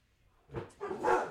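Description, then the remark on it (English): A couple of dogs bark in quick succession, two or three sharp barks following one another with little pause between them. “Dogs, I love you guys, but you're blowing it.”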